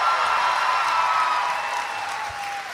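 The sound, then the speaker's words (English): An audience applauds for teachers in a dense, steady wash of clapping, with a sustained high whistle-like tone gliding slowly downward over it, fading slightly toward the end. “Let's clap for teachers.”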